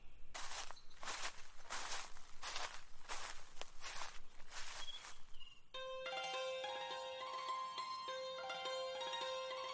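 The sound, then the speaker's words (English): Footsteps crunch along a trail in a steady rhythm, about ten crisp, gritty steps over five seconds, then they stop and sustained tonal music fills the rest. “You know, I'm very careful. I watch my footsteps.”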